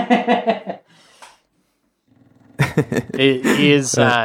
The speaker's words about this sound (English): Oh, wow. Can you hear my dog snoring really loudly?